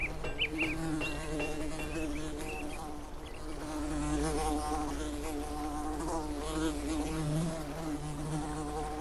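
fly buzzing

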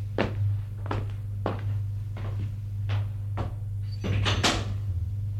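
door being opened

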